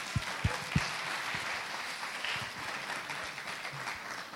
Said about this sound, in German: Vielen Dank, ein Applaus für euch. Danke, dass ihr da seid.